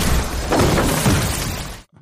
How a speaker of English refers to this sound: And then, boom, a bus crashes through the wall.